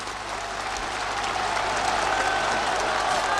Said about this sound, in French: Et sous les acclamations, il gravit lentement la tribune. Il accède maintenant, les bras levés en V selon son geste familier, devant la foule qui l'acclame.